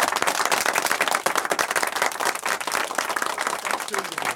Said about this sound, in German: Jawohl, Applaus, Applaus!